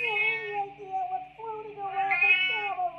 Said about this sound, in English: I got a shuttle full of Terran 5 show cats that just lost artificial gravity.